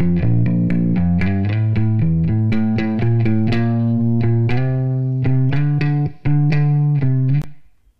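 An electric bass, recorded direct from line, plays a steady run of plucked notes with a wash of reverb smoothing them together, the final note ringing out and fading after the playing stops. No voices.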